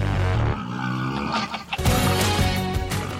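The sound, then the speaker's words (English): Rough, roaring calls of hyenas and wild pigs blend into a loud, dense remixed music track with sustained harmonic tones, seeming to respond to the music's energy, briefly thinning midway before surging back with harsh, growling bursts. “it sounds like the hyenas and the wild pigs that are in there are almost musical collaborators.”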